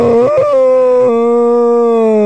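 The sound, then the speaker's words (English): A person's voice imitates a whale call: a loud, moaning tone that wavers and rises at first, then settles into one long steady drone lasting a couple of seconds, with no other sounds. “But I do a whale.”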